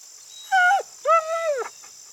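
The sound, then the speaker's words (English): A frightened dog named Max whimpers twice as it is coaxed into a car: a short high whine, then a longer drawn-out one that wavers and trails off. No one speaks, and a thin steady hiss runs underneath. “Sweet doggy, don't be scared. We won't hurt you.”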